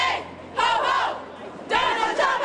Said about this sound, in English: A crowd protested Trump's comments on immigration.